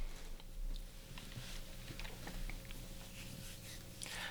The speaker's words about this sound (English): Okay, let me get a sip real quick. And we'll move on to the next one.